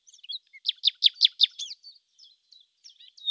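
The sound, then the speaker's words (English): A nightingale, a little grey bird perched on a bough, sings alone: a quick run of about six bright, rising chirps, followed by softer, scattered twitters and a final clear note. “she added, pointing to a little grey bird who was perched on a bough.”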